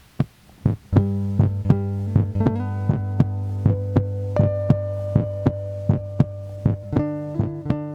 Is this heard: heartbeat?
yes